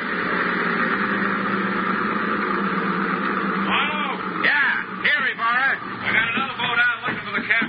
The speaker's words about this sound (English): That boat coming in